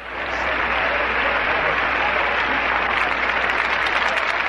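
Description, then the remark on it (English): Steady audience applause, a dense wash of many hands clapping at an even loudness throughout, with no voices breaking through. “The crowd has applauded because you are right.”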